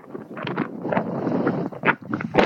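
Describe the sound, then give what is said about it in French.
Wind buffets an outdoor microphone in an open field in London, producing a steady low rumble with irregular gusty bursts throughout, fairly loud, with no clear talking over it. “C'est ouais, je check avec vous parce que je suis dans un champ ouvert à Londres avec des avions qui passent et du vent”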